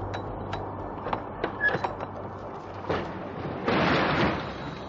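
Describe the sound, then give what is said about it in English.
A trucker raises a semi trailer's door: a few sharp metallic clicks and clunks, then a loud, rattling rush as the door rolls upward, with no talking. “Satisfied, the trucker raised the door.”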